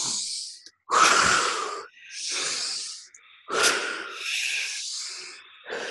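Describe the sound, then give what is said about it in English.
Several deep, forceful breaths in a breathing exercise done the way of Tim Hof, long airy full inhales and exhales alternating in a steady rhythm, each lasting about a second or more, breathy and hissing with no talking. “So it's those deep breaths, fully in, and then let it out.”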